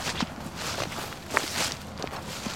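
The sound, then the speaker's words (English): Footsteps of several people walking with heads bowed on a hot day during a tour in Richmond, a steady shuffle of overlapping steps with soft scuffs and occasional sharper clicks, at a moderate, even level with no speech. “Their heads are bowed low as they walk.”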